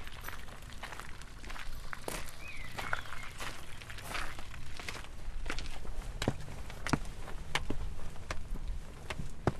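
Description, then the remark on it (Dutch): Steady footsteps crunch along a path outdoors in a large cemetery, walking toward a grave, a regular walking rhythm of sharp taps over a low ambient hum, with no talking. “En we lopen nu naar het graf toe.”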